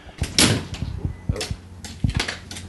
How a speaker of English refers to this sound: Oh, someone's knocking on the door.